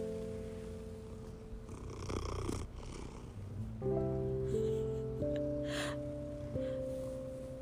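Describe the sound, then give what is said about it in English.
A neighbour's male cat, Bobcat, purrs in a steady, continuous rumble that rises and falls slightly with each breath, with no one speaking over it. “That's my neighbor's cat.”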